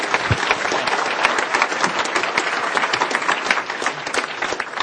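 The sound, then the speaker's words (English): An audience claps steadily for about five seconds in applause for a panel, a dense, even wash of hand claps at moderate loudness with no talking over it. “How about a round of applause for a fantastic panel?”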